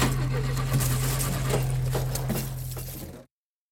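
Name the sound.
car engine starting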